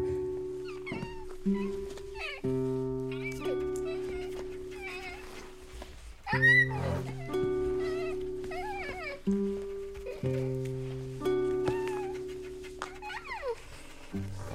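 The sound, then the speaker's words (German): A cat meows and yowls repeatedly, its drawn-out, wavering cries rising and falling, over a backdrop of sustained, droning musical tones. “Aua, die blöde Katze hat mich gekratzt.”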